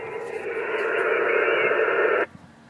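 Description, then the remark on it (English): A ham radio signal from a station in South Texas, tuned in during a radio contest, breaks up into a steady wash of narrow, tinny static that holds for about two seconds, then abruptly cuts out, leaving only a faint low hum. “It's breaking up again.”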